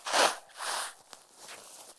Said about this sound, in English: Pardon me, that was me blowing my nose, not what they were teaching the believers.